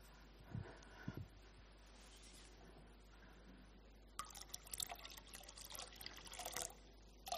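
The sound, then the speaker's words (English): Water is poured steadily into a baptismal font during a church service, a bright splashing trickle that starts a few seconds in after quiet room tone and continues to the end, with no one speaking. “The water of our baptism.”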